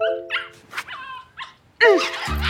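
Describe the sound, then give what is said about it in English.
A puppy lets out a few short, high-pitched yips and whines, then breaks into a louder burst of barking near the end, with no one talking. “Counterpoint, that's the dumbest thing you've ever said, and you do not deserve a puppy. I'm unpooping your puppy!”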